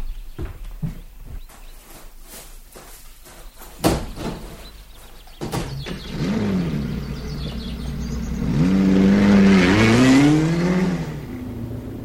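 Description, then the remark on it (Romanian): A few sharp clicks and knocks give way to a car engine starting up and revving, its pitch rising and falling as it pulls away, growing louder toward the end. “Hai să luăm mașina mea.”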